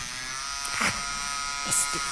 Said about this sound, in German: Ich konnte das Brummen vom Apparat hören. Ich betrachtete mein Bild, das ein bisschen unsauber gemalt war. Und das Brummen wurde immer lauter. Aber nur auf der linken Seite.